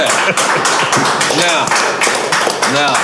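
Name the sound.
audience clapping and cheering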